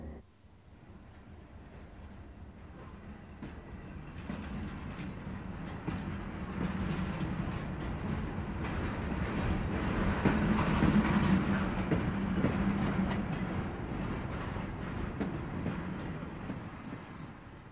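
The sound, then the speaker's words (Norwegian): A passenger train on the Meråkerbanen railway rumbles steadily along the rails, its low, continuous roar swelling slightly midway, with faint rhythmic clatter of wheels over track joints and no voices. “Ok, da forlater vi toget vårt og sier god tur.”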